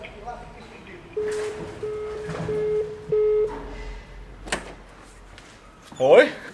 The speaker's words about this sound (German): In kurzen Hosen und Liebli macht der Studiochef gerade persönlich die Türen auf zu seinem Reich.